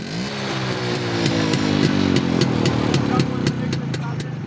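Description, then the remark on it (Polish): A vintage motorcycle engine runs loudly at the 17th vintage motorcycle exhibition in Siedliska near Rzeszów, Poland, its throaty chugging rising slightly in pitch as it revs, with a steady rhythmic ticking over the rumble. “W Siedliskach koło Rzeszowa odbyła się 17. już wystawa motocykli zabytkowych zorganizowana przez Stowarzyszenie Pasjonatów Motoryzacji Dawnej Pęknięta Szprycha.”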